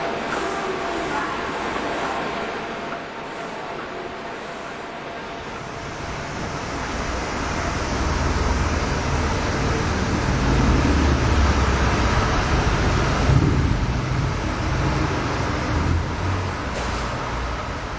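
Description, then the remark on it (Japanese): Steady roar of traffic at the intersection of Eitai-dori and Kiyosumi-dori, both streets of four or more lanes, outside Exit 5 of Monzen-nakacho Station, with engine rumble swelling louder midway as vehicles pass, then easing off. No one speaks. “駅の5番出口を出ると永代通りと清澄通りの交差点に出ます。どちらも4車線以上ある大きな通り。車通りはあるのですが、あまり高い建物もなく、どこかのんびりとしていて都心とはまた違う雰囲気が流れています。”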